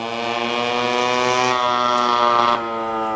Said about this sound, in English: A man on a scooter whizzes through a market, now closed to traffic from Haifa Street.